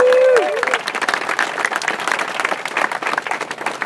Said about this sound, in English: So good morning and welcome to the Nestor's Market Squamish 50 presented by Solomon. This is the fifth edition of this race and the fourth edition of the 50K race with record numbers. So a round of applause for all you guys for coming out.